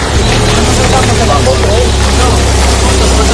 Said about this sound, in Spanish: Este sonido de las palas y de los tractores se ha repetido durante toda la mañana en los municipios de La Riada, en Valencia, o en la zona cero de la tragedia de la Dana, en Castilla-La Mancha.